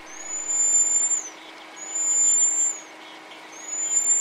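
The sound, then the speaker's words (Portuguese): A baby monkey at a zoo, about 30 centimetres long not counting its long tail and weighing under 1 kilogram, gives a series of high, thin whistle-like calls, three long steady tones with short pauses between them, over a soft background hiss with no talking. “O som que ele faz também é muito diferente daquele grito típico dos macacos maiores. Parece um assovio.”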